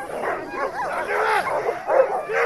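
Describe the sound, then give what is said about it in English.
A pack of sled dogs barks and yelps excitedly before a morning dog-sledding run, many high-pitched voices overlapping in a continuous, restless chorus, loud throughout. “The dogs are ready to run.”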